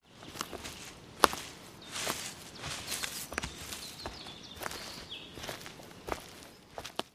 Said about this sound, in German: Das Rascheln von Laub und das Knacksen von Holz, wenn man durch den Wald läuft. Das Geräusch gefällt mir sehr.